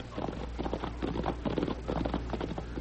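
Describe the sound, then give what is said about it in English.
Horses' hooves clip-clop in a steady, quick rhythm of hollow thuds as the horses approach, over a low rumbling background, with no voices. “I hear horses.”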